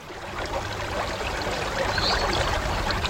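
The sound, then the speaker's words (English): The River Ebble runs steadily at Cumbisset, Wiltshire, with a continuous bright rush and a bubbling, gurgling texture. It holds at an even level throughout, with no voices. “we're at Cumbisset on the banks of the River Ebble.”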